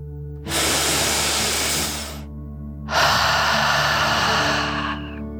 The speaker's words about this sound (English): Before we begin our story, let's relax by taking a nice, deep dragon breath. Breathe in through your nose, filling up your lungs, and then out through your mouth, imagining you are breathing fire like a dragon. Ready? Deep breath in and out.